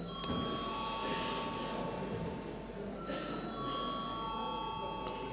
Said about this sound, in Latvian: Deputāti pieprasa balsojumu. Lūdzu zvanu.